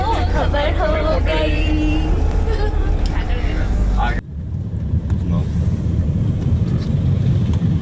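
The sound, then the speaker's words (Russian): A crowded bus interior full of overlapping passenger chatter, loud for a few seconds, then cutting abruptly to a lower, steady engine rumble with faint voices underneath. “Переполненный автобус, я не знаю.”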